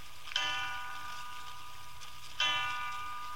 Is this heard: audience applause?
no